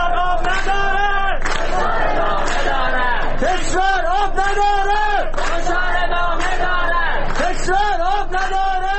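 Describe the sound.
A large crowd chants slogans in unison, loud rhythmic shouted phrases rising and falling in repeated bursts, with voices overlapping and the chant sustained throughout.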